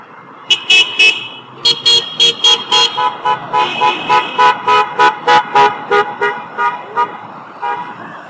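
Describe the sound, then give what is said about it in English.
Car horns honk repeatedly on Georgia Avenue in a hospital area, drivers honking in support of demonstrators, a long run of short, loud blasts in a steady rhythm, several horns overlapping over a low background of traffic rumble. “Honking cars for the freepers on Georgia Avenue.”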